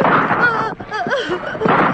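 gunshots

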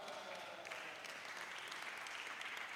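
audience clapping

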